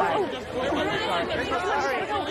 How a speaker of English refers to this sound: A crowd gathers around Harrington, holding out books for him to sign.